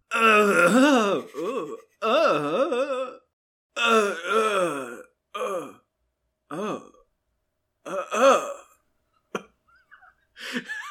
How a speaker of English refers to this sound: They hear another death scream. It lasts 7 seconds.